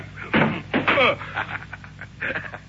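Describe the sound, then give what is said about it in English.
A gun is thrown against a door, landing with two loud thuds in quick succession, followed by fainter knocking and rattling as it settles. “Your gun hit the door”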